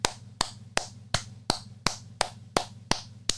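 About ten sharp hand claps applauding Bethesda, at a slow, steady rhythm, one every third of a second, like a lone person applauding, with a faint low hum underneath and no talking.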